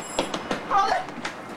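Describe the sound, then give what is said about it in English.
A train at a platform in Grand Central Station as its doors close, with short metallic clanks and a brief high wheel squeal in the middle, heard at moderate volume over a steady rumbling background. “And leaps onto the train as the doors close.”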